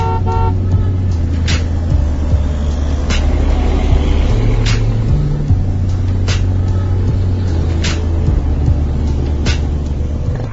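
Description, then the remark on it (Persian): Busy city traffic rumbles steadily while car horns honk repeatedly, short toots and longer blasts overlapping, with no voices; smoky traffic on the drive out of the city toward Karaj. “میون دود و بوق رفتیم تا کرج.”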